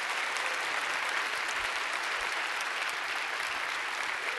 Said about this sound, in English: So I thought, what would it be like if we were just to say Merry Christmas by applause